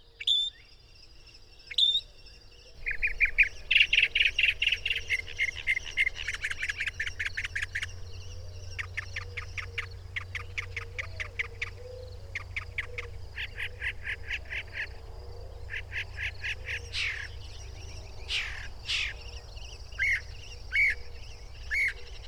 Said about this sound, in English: This year-round resident of our region is known for being, well, pretty chatty. They have a vocal repertoire of more than 200 sounds mimicking other birds, frogs, bugs, even car alarms.